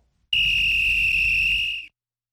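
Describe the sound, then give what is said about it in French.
A single sustained referee whistle blast, loud and shrill, held steady for about a second and a half before cutting off, with a low rumble underneath. “C'est le coup de sifflet”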